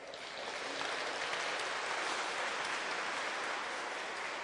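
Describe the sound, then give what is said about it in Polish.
A crowd claps steadily for several seconds for the people leading the singing, a dense, even wash of many hands with no pauses and no voices over it. “No to jeszcze raz je oklaskajcie.”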